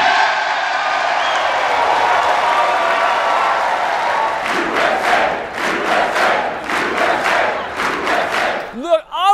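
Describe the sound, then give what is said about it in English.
A large crowd of Republicans in the House of Representatives chamber erupts in loud, sustained applause and cheering as Kevin McCarthy is elected Speaker, settling midway into rhythmic unison clapping, with a voice rising briefly at the very end. “I'd also break into applause if it meant I didn't have to spend my Saturday with Matt Gaetz”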